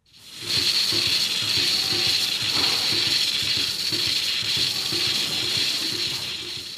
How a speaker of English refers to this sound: It's a swish setup. A robotic milker works away on Michael's 115 Montbellard cows.